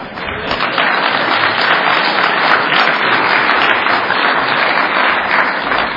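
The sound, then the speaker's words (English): A crowd applauds steadily for several seconds, a dense, loud wash of many hands clapping with no voices standing out above it. “We always applaud all over the world, but we still allow AA to publish that piece of crap.”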